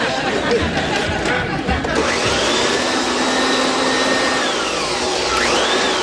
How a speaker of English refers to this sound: Why don't I shut this off and you can finish vacuuming later? Oh, on the other hand, I could turn off the music and listen to the vacuum.